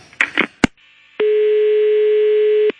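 A few quick clicks and knocks of a telephone being redialed, then a single steady electronic ringing tone lasting about a second and a half, clear, with no one talking.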